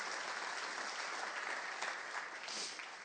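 An audience applauds Jesus, many hands clapping in a dense, continuous wash of crisp noise that holds an even loudness for about three seconds before tapering slightly.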